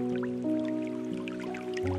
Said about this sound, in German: Stelle dir vor, du bist in einem wunderschönen bunten Wald. Die Sonne scheint durch die Bäume. Und du hörst das sanfte Plätschern eines kleinen Baches.